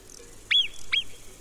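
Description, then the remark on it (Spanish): Two sharp, high-pitched whistle-like barks from a marmot, each a brief piercing call that sweeps down and trails off, spaced about half a second apart over a faint background hiss. “Esto es un ladrido, aunque parece un silbido. Es un ladrido muy agudo.”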